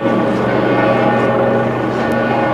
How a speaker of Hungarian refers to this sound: Ez már a Santa Maria Maggiore bazilika harangja, Róma belvárosán keresztül érkezett ide Ferenc pápa koporsója.